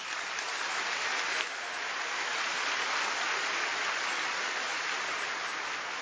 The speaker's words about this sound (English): And so I really appreciate that, and I want to give him a round of applause for taking a stand for me.